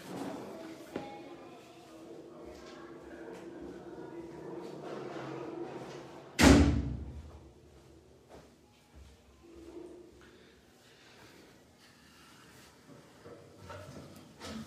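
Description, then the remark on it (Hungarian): A door is shut with a single solid thud about halfway through, standing out sharply against a quiet, murmuring background. “egy pillanat csak becsukom az ajtót.”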